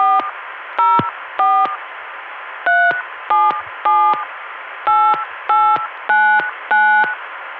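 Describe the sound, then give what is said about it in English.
A rapid string of about eleven touch-tone beeps as a caller dials their own phone number over the Atlanta dial tone, each short dual-pitched tone clear over a steady hiss of line noise. “Now my own number.”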